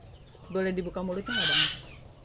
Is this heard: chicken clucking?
yes